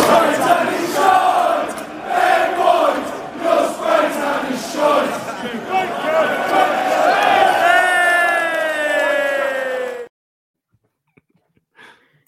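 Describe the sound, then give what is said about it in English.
A large crowd of Wolves football fans in the South Bank stand sings a rhythmic terrace chant aimed at Ben White, in unison, loud and echoing, with voices rising into a sustained shout before cutting off abruptly into near silence. “Should we talk about the other song that got sang by the South Bank last night, which I found rather funny?”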